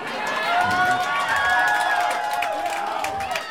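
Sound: audience clapping and cheering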